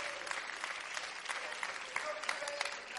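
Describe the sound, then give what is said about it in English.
A church audience claps hands in a steady, dense wash of applause, many overlapping bright claps sustained for the whole stretch at moderate loudness, with no voices standing out. “If you believe that, would you clap your hands right now and thank Him that you're a part of this great church?”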